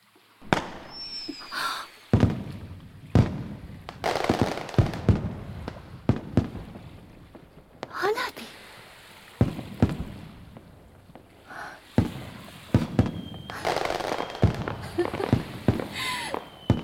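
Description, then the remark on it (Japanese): Fireworks burst repeatedly at irregular intervals at dusk as the sun sets, sharp loud bangs with crackling tails and occasional whistling rises, with no talking. “なるほど、あなた花火が見たかったのね。それともひょっとすると私に見せたかったのかしら。”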